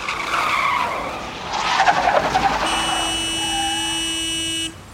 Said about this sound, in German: Er hat gehupt, weil das Taxi so schnell gestoppt hat, damit der Mann mit den Koffern einsteigen kann.